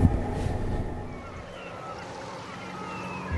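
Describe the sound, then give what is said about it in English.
A steady ocean breeze rushes past at the Santa Monica pier, a low rumbling wash of wind and surf with a faint droning hum in the background, no voices. “The ocean breeze.”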